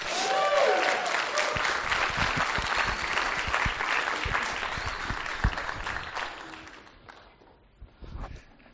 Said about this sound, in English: give a big round of applause to Pastor Aaron Morton